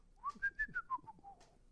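Someone whistles with their lips, a short tune of about six pulsed notes that climb slightly and then drift lower, clear and unaccompanied, fading at the end.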